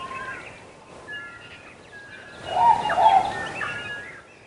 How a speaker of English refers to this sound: The dense forest and the tall mountains had no predators, and the birds had nothing to fear. So they sang.